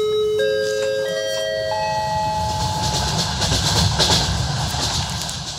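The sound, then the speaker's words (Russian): Khariton's personal railway carriage rumbles steadily along the rails on the way to the site, with rhythmic clicking over the joints, while a few sustained, rising tones ring out above the continuous loud rolling noise. “В первых числах июня я вместе с Харитоном ехал на объект в его персональном вагоне.”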